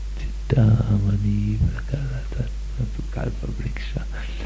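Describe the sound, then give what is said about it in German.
Low voices chant Vedic mantras in the distance in long, steady held tones, a droning line that swells at the start and then breaks into shorter murmured syllables over a constant low hum. “Dann hörten sie das Chanten von vedischen Mantren in der Ferne.”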